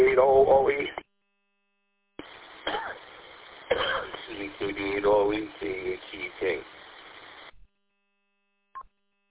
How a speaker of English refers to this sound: Seems like we're both having a coughing